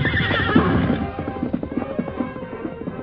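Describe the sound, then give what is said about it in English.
A horse, Scout, gives a loud, shaky whinny that trails off, followed by a quick series of hoof clops on hard ground, fading slightly toward the end. “Easy, big fella. Steady.”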